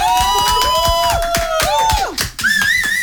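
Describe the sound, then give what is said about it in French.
A small group cheers with high, sliding whoops and shouts over a scatter of handclaps, loud and lively for a few seconds, welcoming a YouTube singer joining live from Corsica. “Le public est en folie.”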